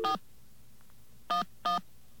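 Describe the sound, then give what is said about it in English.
Someone dials 411 on a telephone keypad to call information: one short tone, a pause of about a second, then two identical tones in quick succession, steady and moderately loud against faint line hiss. “Let's get our dial tone. All right. We'll dial, what should we dial, 411?”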